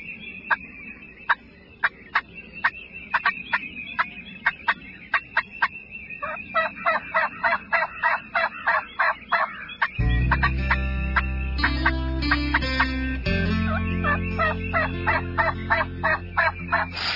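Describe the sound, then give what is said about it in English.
A wild turkey gobbles repeatedly in quick, rattling bursts, loud; partway through, a low, steady musical backing swells in beneath the continuing gobbles. “Tailing redfish on the fly rod, fresh walleye in a skillet, big time turkeys running to your call, a massive 6x6 within 30 yards, and a new personal best in the bass boat.”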